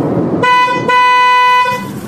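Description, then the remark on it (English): A car horn blares in a sustained honk, briefly broken into two long blasts, over a low, muffled road rumble of traffic heard from inside a car, with no one talking. “And so I surreptitiously started recording our conversation with her in the car.”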